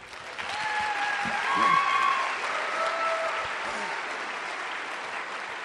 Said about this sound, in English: Hello. This is the part where you clap hands, by the way.